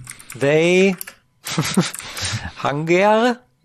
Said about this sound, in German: warte mal, meine Tastatur möge man mir entschuldigen.